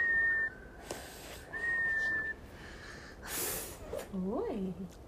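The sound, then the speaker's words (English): A tea kettle whistles in two steady, high-pitched bursts, fairly loud, followed by a breathy hiss and a short warbling, rising-and-falling tone. “The tea kettle whistled.”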